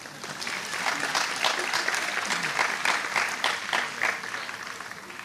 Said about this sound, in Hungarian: Ó, valaki másfél métert bevállalt. Meg is tapsolhatjuk, igen, ez.